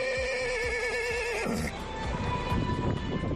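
A horse at the Feira Cabalar horse fair in Amio lets out a loud, quavering whinny lasting over a second, with a few low thuds beneath it, then gives way to busy, noisy outdoor bustle.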